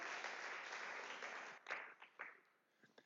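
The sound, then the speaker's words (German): A crowd applauds with steady, dense clapping that gradually thins out, leaving a few scattered individual claps at the end. “Vielen Dank an euch, Applaus und ihr dürft einfach jetzt mal nach unten.”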